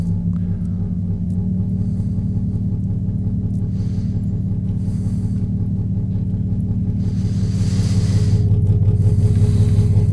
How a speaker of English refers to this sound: You feel that modulation? It's two tones that are really close. I'm going to bring them close together again.